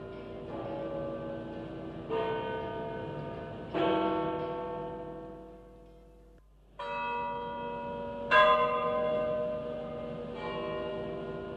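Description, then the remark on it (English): Large church bells of St. Peter's in Rome toll slowly to announce the death of Pope John Paul I in September 1978, each heavy strike ringing out with long, shimmering overtones that overlap and decay, with a brief lull before the tolling resumes. No voices are heard. “The actual sound of the bells of St. Peter's tolling to let the world know the newly elected Pope was dead.”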